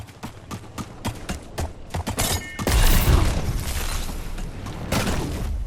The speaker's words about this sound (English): Oh, damn, I just slammed into a fence.